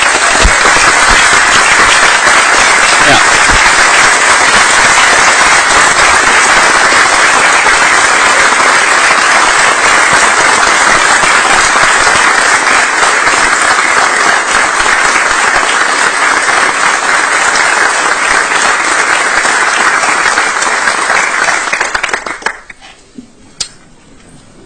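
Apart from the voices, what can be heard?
audience applause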